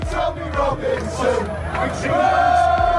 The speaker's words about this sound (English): We start seeing rallies on the street, people screaming to free Tommy Robinson, and I remember watching one of these on TV.